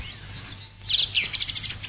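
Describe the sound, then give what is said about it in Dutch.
A song thrush sings a run of bright, quickly repeated whistled notes, fairly clear, played from a cassette deck that adds a steady low hum, with faint background hiss. “en er misschien maar half zoveel zanglijsters in de vrije natuur als nu. Toch wel heel mooi om naar te luisteren, hè?”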